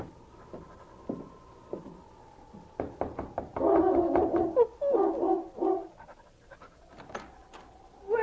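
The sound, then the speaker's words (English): King, Sergeant Preston's big gray lead dog, pants heavily and rhythmically at a cabin door, quick breathy huffs in steady bursts, with a few knocks and a faint sustained tone in the background. No one speaks. “King, his big gray lead dog, followed him to the cabin door.”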